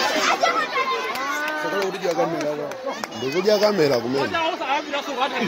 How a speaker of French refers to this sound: Alors c'est tourné au portable dans le district de Mangochi, des altercations près d'une école, certains applaudissent, affrontements violents hein